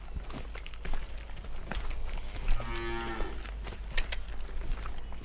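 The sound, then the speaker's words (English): A working ox, used for draft work instead of diesel power, gives one long, drawn-out moo partway through, clear, against steady outdoor background noise with scattered thuds that may be hooves shuffling. “You know, you're not relying on diesel or oil or... That's what I like about them. Just cow power.”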